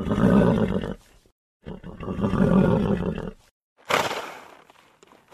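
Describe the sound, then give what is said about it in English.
An enormous black horse lets out two loud, rough, drawn-out blasts, followed by a sharp, breathy snort through the nostrils; no hoof stamping stands out. “It stamped its feet and snorted like a fierce dragon.”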